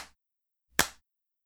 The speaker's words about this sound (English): Listen, say, and do. Clap your hands.